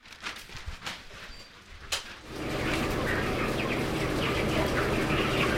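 A couple of quiet seconds with a few clicks and shuffles, then a dense, steady chorus of many chickens (hens, roosters and broiler chickens) clucking and cheeping continuously in an agricultural school's poultry barn.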